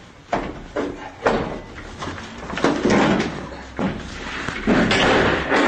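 Heavy thuds of an apartment door being forced open in Selydove, about five loud blows landing at uneven intervals with rattling noise between them, without any talking.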